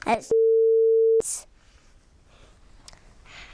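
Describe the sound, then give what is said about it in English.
A toy phone emits one loud, steady electronic beep lasting about a second, preceded by a brief bit of voice and followed by soft breathy noise and quiet background sounds. “This phone is not working.”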